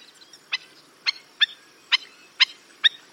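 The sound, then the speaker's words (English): Black-necked stilt, a slender black-and-white North American shorebird with red legs, calls: six sharp, yapping notes repeated at a steady, brisk pace, fairly loud, with nothing else but faint background hiss. “The appropriately named black-necked stilt has the longest legs, relative to its size, of any North American bird.”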